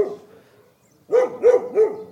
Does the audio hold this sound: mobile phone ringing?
no